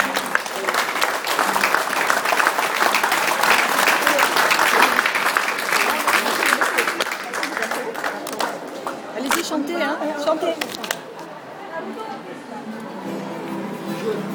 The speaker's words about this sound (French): Alors, je sais que vous êtes bien secondé par toute une équipe, mais je souhaiterais vraiment qu'on vous applaudisse, très simplement.